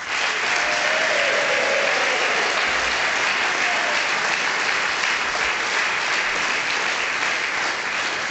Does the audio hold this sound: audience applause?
yes